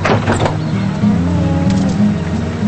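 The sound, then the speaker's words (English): A Ford pickup truck's engine rumbles steadily as it pulls in front of a bunkhouse, its low drone shifting slightly in pitch, with a brief muffled clunk near the start like a door shutting. “Now a Ford pickup pulls in front of the bunkhouse.”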